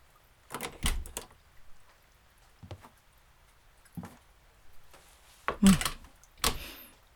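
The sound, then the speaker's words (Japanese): A door opens and shuts, with a handful of sharp clunks and rattling knocks spread unevenly over several seconds, the last ones loudest, and no one speaking. “開いとるぞ。”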